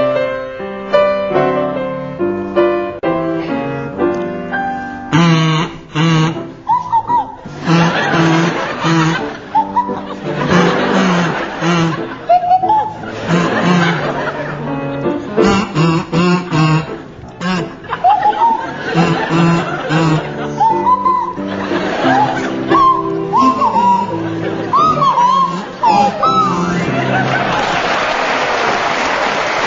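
Jeremy Hardy on a buzzy kazoo and Tim Brooke-Taylor on a sliding swanee whistle play a wobbly show tune together for about half a minute, with an audience laughing loudly throughout and applause near the end.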